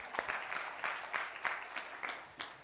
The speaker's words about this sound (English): Let's applaud him.